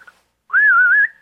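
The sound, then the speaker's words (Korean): Someone whistles in imitation of birdsong: a brief faint chirp, then one loud, sustained mid-pitched note that warbles gently up and down for about half a second, with no talking. “상큼한 새소리와 함께 시작하는 싱그러운 한주입니다.”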